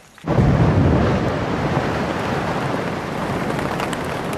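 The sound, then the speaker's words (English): A sudden heavy roar of huge ice chunks breaking off the vertical cliff edge of a polar ice shelf and crashing into the sea, a deep rumbling wash that starts abruptly and stays loud and steady, with no voices. “Those cracks widen into crevasses hundreds of feet deep, and every once in a while, huge chunks of ice slide off into the sea.”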